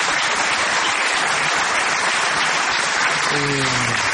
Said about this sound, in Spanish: vamos a aplaudirlo en este mismo momento.